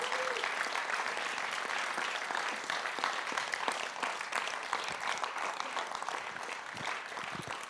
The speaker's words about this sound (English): In fact, give them a round of applause. Aren't they precious?